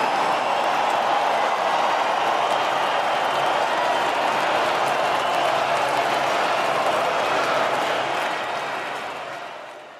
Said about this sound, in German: Spannender noch als die Ankündigung, die wie im Stil eines Boxrings kam, war der Jubel, der hier zu hören war. Das ist der Jubel eines massenhaften Publikums bei einer sportpalastartigen Rede, die Putin gehalten hat